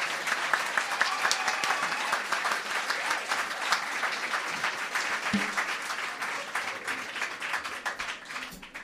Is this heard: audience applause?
yes